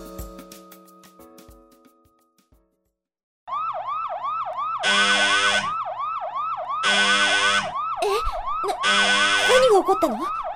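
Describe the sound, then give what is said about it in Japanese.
A few seconds of musical tones give way to a loud, wailing alarm siren that sweeps up and down in rapid repeating cycles, with bursts of harsh noise pulsing in and out. “この警報はまさか。”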